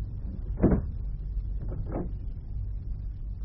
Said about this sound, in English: Press that button, Dream and Row, and it'll be safe to open the door. Very well. All clear now. You can open the door, Gingo. Or perhaps you'd rather I did.